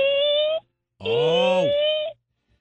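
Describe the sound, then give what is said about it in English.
A person imitates a baby owl call with two steady, high, tonal voiced notes, a short one and then a longer one, with a gap between them and no other talking. “I'm going to guess a baby owl.”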